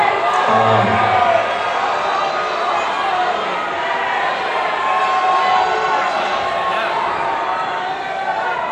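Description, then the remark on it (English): A crowd at a concert shouts all at once, yelling out song requests to the band, a dense, loud wash of overlapping voices and cheers with a few higher whoops cutting through, sustained steadily throughout. “Don't all yell out at once.”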